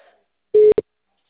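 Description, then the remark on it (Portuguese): A telephone network tone signalling an unreachable number: a steady mid-pitched beep followed by a much shorter one, loud and clean against silence. “Oi, este número de telefone não existe.”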